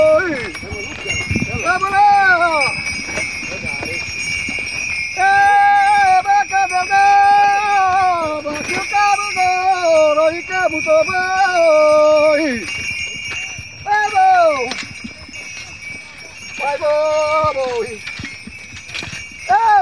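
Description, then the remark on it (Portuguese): A herd of cattle moves past with a steady ringing of bells and trampling hooves, while people shout and call out repeatedly, including "Bravo", over the commotion. “Ei, vaca bonita.”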